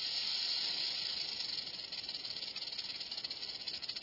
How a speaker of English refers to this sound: In one experiment, ground squirrels were nearly as alarmed by the burrowing owl's hiss as they were by the recording of a real rattlesnake like this one.